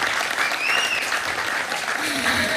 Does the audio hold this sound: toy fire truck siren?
no